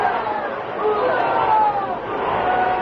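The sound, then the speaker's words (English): A large bullfight crowd roars and shouts, screaming to its feet in a dense, sustained wall of voices, loud and continuous throughout, with excited yells rising above the general din, as the matador handles his muleta. “He handled his muleta in a way that brought the enthusiastic crowd screaming to its feet.”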